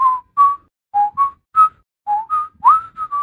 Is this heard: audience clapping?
no